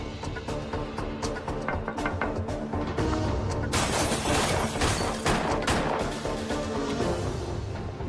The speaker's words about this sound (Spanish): El testigo escucha los disparos. A las 3 y 28 de la mañana, un operador informa: oficial caído en Jamaica, Queens.